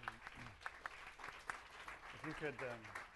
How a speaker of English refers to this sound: Thank you very much. Let's give a round of applause for the hard work.